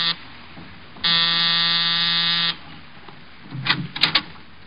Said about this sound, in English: A half hour after I left George Victor, I was punching the buzzer to Saxon's apartment.